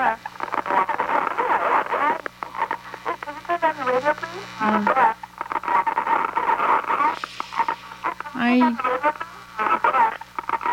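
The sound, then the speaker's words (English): A caller's radio broadcast plays through a telephone line, thin and muffled with a steady low hum underneath. The voices from it carry on almost without pause at a fairly loud level. “Oh, can you turn down your radio, please?”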